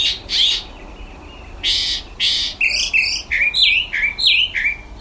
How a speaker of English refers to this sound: Every morning, a mockingbird would perch just outside his window and sing this song. Now it's the tune for his morning alarm.